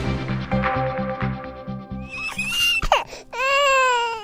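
A baby fusses and whimpers up close, short strained cries rising and wavering, growing into a longer wail toward the end, with a steady pulsing background hum early on.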